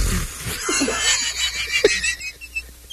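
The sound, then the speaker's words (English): A voice imitates an old man's sputtering fart with a few short, wet, breathy bursts, moderately loud, with a faint hiss in the background. “He's so old, he's oblivious that he's farting. He's just like...”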